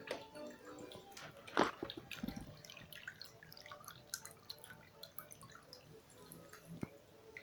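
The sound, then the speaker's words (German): Water laps and sloshes as a slim black gondola, rowed by a gondolier, glides silently into the water, with soft irregular drips and small splashes and one louder slap early on, continuing gently throughout. “Lautlos sticht die Gondel ins Wasser.”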